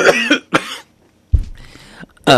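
A man coughs several times in close, loud, harsh bursts, with uneven gaps between them and a longer throaty fit in the middle.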